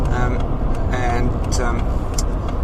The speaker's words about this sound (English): Oh, this really incredible truck in front of me. I'm going to have to open it. It says Medusa, I don't understand this.